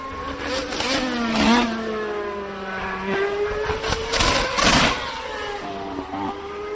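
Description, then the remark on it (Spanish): Two Formula One cars, a Mercedes and a Red Bull, scream past one after the other, their high-pitched engines rising and falling through rapid downshifts into a corner, loud with no voices. “vamos a escuchar Mercedes y Red Bull el sonido”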